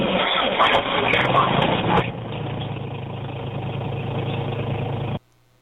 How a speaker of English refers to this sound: There's a little bit of a screech in there. It starts up pretty quickly, so I don't think the starter itself is going out or the solenoid.